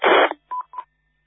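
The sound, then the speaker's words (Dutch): A short burst of static, then two quick telephone dialing tones, each a brief steady beep with a slight pause between, fairly loud, with no voices. “Nog blijf geduld, ik heb even een telefoon.”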